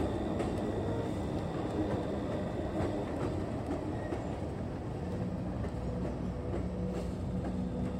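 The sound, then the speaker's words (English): A freight train rolls steadily along the tracks, a continuous low rumble with faint clicking and metallic squeals, fairly loud with no voices. “They called him the railroad killer, and for more than a decade he crisscrossed the US by freight train, jumping off at random and bludgeoning his victims to death with whatever blunt object he could find.”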